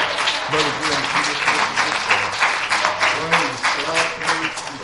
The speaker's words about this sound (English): One more hand clap of praise for Jesus. Would you do that?